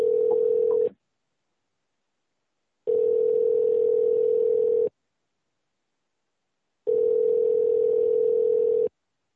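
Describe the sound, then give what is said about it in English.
A telephone line tone sounds while a call is placed back to someone whose phone dropped out: three steady, long electronic buzzes of about two seconds each, separated by silent gaps, clear with no voices. “I'm calling him back”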